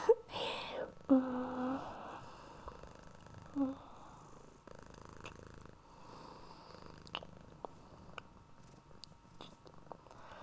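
A cat purrs in a steady low rumble, louder at first and then settling into a quieter, continuous drone, with a few faint clicks and taps scattered over it.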